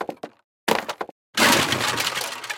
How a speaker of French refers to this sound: « Je suis la gardienne des 13 portes !» lui dit la femme. Juanico abattit les 13 portes avec sa canne.